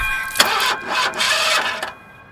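A car engine cranks in a few harsh, grinding bursts with brief pauses between them, then goes quiet without catching because the car has no gas. It's fairly loud, with no talking.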